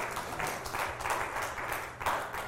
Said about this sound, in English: you just clap and you just go on.